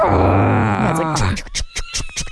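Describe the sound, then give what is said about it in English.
A voice imitates squealing car brakes with a long, strained, wavering screech lasting over a second, then breaks into short choppy bursts that sound like laughter. “I was with you today and your brakes are like...”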